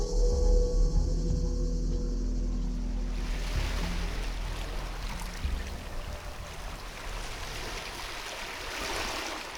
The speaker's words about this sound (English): As you stand here with the water lapping at your feet, it's impossible to imagine what went on here.